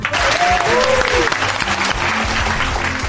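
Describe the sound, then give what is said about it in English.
A lively round of applause from a small group for the show's technician on the radio show Porn Stars on 101.9, dense clapping that stays loud and steady for a few seconds, with a few brief whistles or cheers mixed in near the start. “And please give us a round of applause to our technician,”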